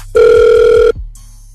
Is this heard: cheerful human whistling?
no